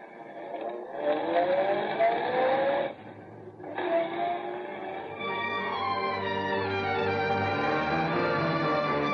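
A car engine turns over and revs with rising pitch, pauses briefly, then roars up again and settles into a steady drone as the car pulls away. It is loud, with no talking.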